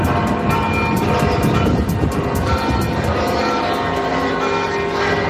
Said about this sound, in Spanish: Así sonaban a primera hora de esta mañana las campanas de la Catedral de Santiago.